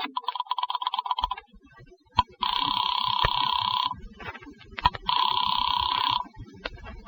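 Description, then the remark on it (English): A telephone rings over the line on a call placed from a drugstore phone booth to a hotel, in repeated long bursts separated by short pauses, fairly loud, with faint clicking and rustling underneath and no talking. “And then shortly before the session ends, you slip away and enter a drugstore phone booth across the street.”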